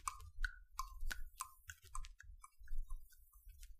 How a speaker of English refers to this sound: But I do know this clock does one very slick trick. It doesn't tick-tock. How it goes is tock-tick. So with ticks in its tocker and tocks in its ticker, it saves lots of time and the sleeper sleep quicker.